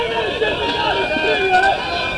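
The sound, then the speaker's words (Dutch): Many feet tramp along together in a steady shuffle, a group of about 30 riot police walking toward a building, with a dense wash of crowd noise and murmuring voices around them. “Er lopen een 30-tal ME'ers richting het pand.”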